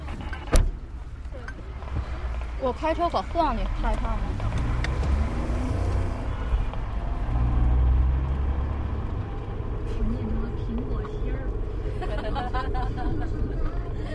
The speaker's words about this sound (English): We're in a car